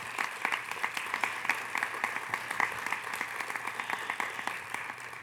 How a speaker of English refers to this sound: And when you open your eyes, go ahead and give a wonderful round of applause to these young adults who are our future.